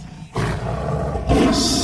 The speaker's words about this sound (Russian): Но тут в дверях появляется тигр.